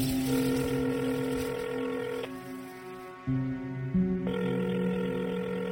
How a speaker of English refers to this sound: Try to call, but there's no answer.